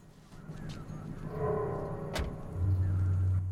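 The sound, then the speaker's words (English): A police car rolls up on a long, straight desert road and comes to a stop, its engine rumbling, with a sharp click midway and then a steady low idling hum. “The police car stops just behind her, and the uniformed officer steps out.”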